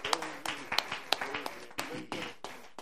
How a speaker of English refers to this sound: Would you clap your hands under the Lord one more time? Would you lift him up all over this sanctuary?